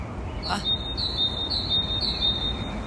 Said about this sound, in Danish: Jeg er frisk optaget her til morgen. Ej, hvor kan jeg godt lide den. Hvad er det for en fugl?